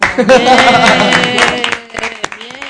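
Applause from a programme's audience for the show's sports co-presenter, a dense wash of clapping over a tonal musical or vocal layer, thinning out toward the end into a few scattered individual claps.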